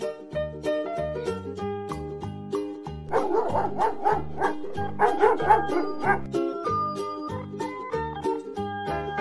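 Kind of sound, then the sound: animal, dog barking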